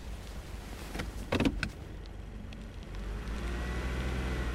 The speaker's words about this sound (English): Car's still going. Maybe we drive?